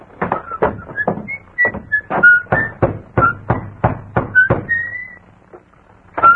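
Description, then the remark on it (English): A series of about a dozen sharp knocks on the wooden door of a small white cottage in the town of Carsonville, rapped by a man in army uniform, at a brisk, uneven pace, with thin whistling tones drifting over them before a final knock after a short pause. “He rode up to a small white cottage, dismounted, slapped dust from his army uniform, then rapped on the door.”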